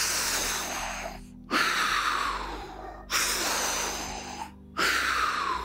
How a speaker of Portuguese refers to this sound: Uma respiração que ela não é uma respiração comum, ela não é... Não, ela é uma respiração onde você literalmente força o seu corpo a colocar muito oxigênio para dentro. Tipo assim...